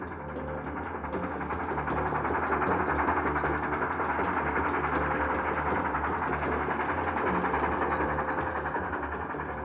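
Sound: train passing by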